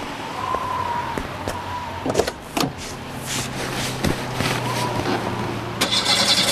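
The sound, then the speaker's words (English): A car engine, tried again after cooling down, turns over with a few clicks and clunks, then catches and settles into a steady low rumble, with no one speaking. “I think engine has cooled now. I'll try again.”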